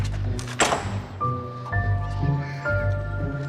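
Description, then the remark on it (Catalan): The street door of a house's entrance opens with a single solid clunk of the latch, followed by soft, sustained musical tones layered over a low background hum. “Obre la porta del carrer, cap cot.”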